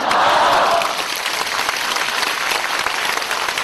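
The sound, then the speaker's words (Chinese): A crowd applauds steadily for a few seconds, a dense wash of many hands clapping at even loudness, with a brief murmur of voices early on beneath the clapping. “鼓掌的人都是有希望的。”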